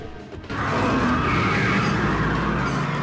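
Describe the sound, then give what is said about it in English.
People get into a car, which revs hard and speeds away with a loud, sustained tire skid, the engine roaring continuously after a brief quieter moment at the start. “They get into the car and speed away.”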